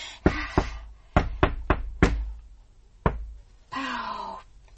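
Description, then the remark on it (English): A secret knock on a door: about seven sharp knocks in an uneven, coded rhythm, the measure of an impudent ditty about Master Cromwell, followed by a brief low vocal moan. “What was the secret knock?”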